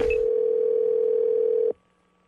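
A single steady telephone ringing tone over the line during a call placed to a muralist, loud and clear, holding for under two seconds before cutting off abruptly into near silence, as if the call is about to connect.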